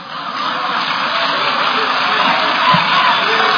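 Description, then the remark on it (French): A large hall audience cheers frenziedly and without pause as Constant Moutamba declares that laws and the Constitution are made to adapt to new realities, a dense, loud roar of voices and whoops filling the whole stretch with steady intensity. “C'est sous ces acclamations frénétiques de la salle que Constant Moutamba déclare que les lois et la Constitution sont faites pour s'adapter aux nouvelles réalités qu'elles rencontrent.”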